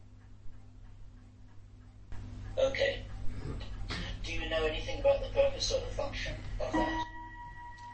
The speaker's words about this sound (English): Clock. We'll just let that clock chime.